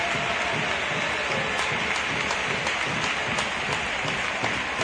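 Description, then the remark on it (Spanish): A football crowd applauds number 18, Isi, during a substitution, steadily for about five seconds, a dense, even wash of many hands clapping with a few sharper claps standing out, holding at the same loudness throughout. “Aplausos para él.”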